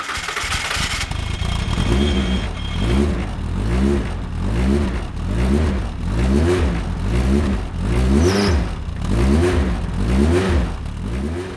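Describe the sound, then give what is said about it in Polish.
The engine of a track-only race car capable of about 360 km/h bursts to life, then revs hard in a steady series of rising and falling throttle blips, loud, with no talking over it. “A czy jesteśmy w stanie uruchomić silnik, żeby posłuchać, jak to cacko brzmi?”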